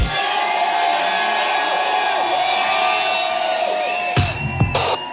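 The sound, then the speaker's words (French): A crowd shouts and cheers loudly and continuously, many voices blending into a sustained roar, with a couple of sharper bursts of noise near the end. “S'il y a des cris qui traînent dans les gorges, qu'ils se fassent entendre.”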